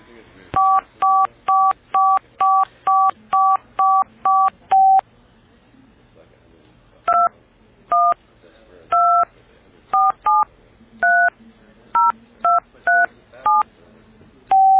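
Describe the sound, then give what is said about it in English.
Touch-tone telephone dialing as the phone tries to get a line: a quick, even run of about nine clear beeps, a short pause, then another dozen beeps at an uneven pace, loud over a faint low hum. “And right now, it's trying to grab a line.”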